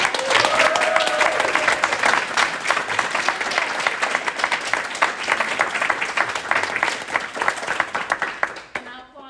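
A large audience claps steadily and loudly for several seconds, with a few shouts and whoops rising over the dense applause before it quickly tapers off at the end. The applause is for a choir and its accompanying musicians.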